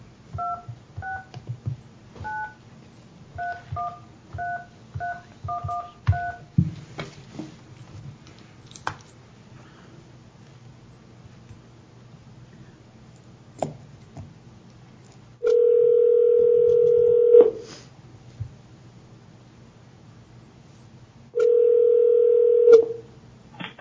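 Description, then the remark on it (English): A quick run of short touch-tone dialing beeps, followed after a pause by two long, steady telephone tones a few seconds apart, heard clearly over faint line noise, as a phone call is placed during a Taney County BOE session. “He's waiting for a phone call.”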